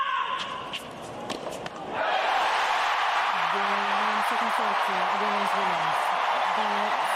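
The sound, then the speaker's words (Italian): A tennis crowd inside Arthur Ashe Stadium cheering: scattered claps and shouts erupt into a loud, sustained roar that holds steady, with a voice calling out over the din. “What an effort! What a noise inside Arthur Ashe!”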